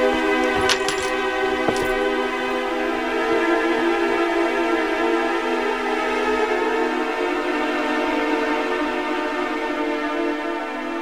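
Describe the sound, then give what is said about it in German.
A short metallic jingle of a hotel room key being handed over near the start, a few bright clinks within about a second, set against a steady, sustained tonal drone that continues throughout. “Bitte, hier ist der Schlüssel.”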